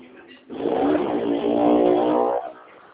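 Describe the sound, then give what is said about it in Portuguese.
A motorcycle roars past on a street, its engine revving loudly for about two seconds with a rising, buzzing tone before dropping away. “Loucura aqui essas motos. Ah, eu Eu, escutei o barulho de moto.”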